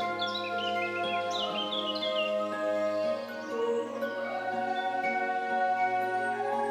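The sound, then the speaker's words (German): Birds chirp and tweet in quick scattered bursts, clearest in the first few seconds, over a steady, sustained musical drone that continues throughout at moderate volume. “Die Vögel zwitschern und die Sonne wärmt dich und du fühlst dich so richtig wohl.”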